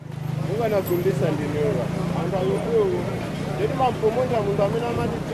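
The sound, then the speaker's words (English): Bustling outdoor ambience of a busy market in downtown Lilongwe, Malawi, selling food, car parts, brooms and pets: many overlapping voices chatter steadily throughout, with no single talker standing out, over a low, continuous engine-like rumble. The crowd noise stays dense and fairly loud the whole time. “A busy market in downtown Lilongwe.”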